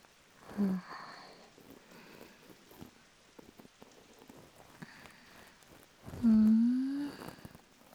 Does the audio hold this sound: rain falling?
yes